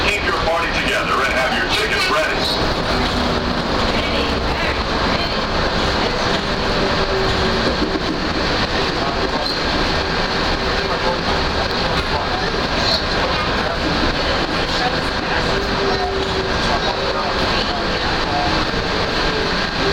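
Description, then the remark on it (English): Steady, loud rumble and rattle from inside a moving train coming in towards the Magic Kingdom Transportation train station, with high squealing tones and indistinct voices mixed into the constant noise throughout. “We're coming in towards the Magic Kingdom Transportation train station.”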